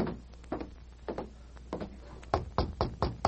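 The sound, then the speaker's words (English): Knocking on the office door of the head of a bank in a Lone Ranger radio drama: a few soft, scattered taps, then a firmer run of four or five sharp, evenly spaced knocks toward the end, with no voices. “Just knock on that door back there.”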